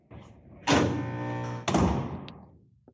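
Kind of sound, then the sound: household object, door being closed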